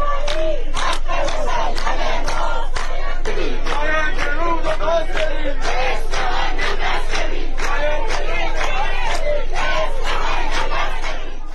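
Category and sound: crowd, protest crowd chanting slogans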